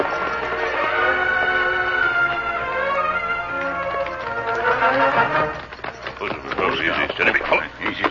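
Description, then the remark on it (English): The horses of the Lone Ranger and Tonto break into a quick, rhythmic, loud clatter of hooves partway through as they ride in among the trees along a branch trail toward a small farmhouse, following a sustained swell of tonal music that lingers underneath. “We'll ride in among the trees from here, Tonto.”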